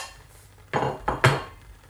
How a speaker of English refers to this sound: Rather aggressively getting the bowls out.